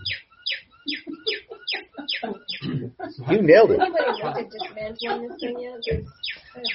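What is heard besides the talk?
cuckoo calling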